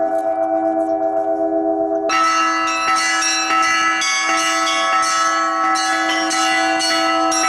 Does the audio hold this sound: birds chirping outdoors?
no